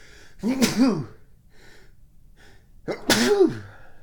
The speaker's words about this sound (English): Uh-oh, here comes a sneeze.